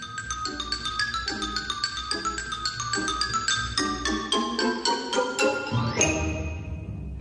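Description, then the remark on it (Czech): Quick, bright xylophone notes run in a steady rhythm with clicking castanets, then a shimmering gong tone rings out and lingers near the end. No one speaks. “Nastavljaju ksilofon, kastanjete i gong.”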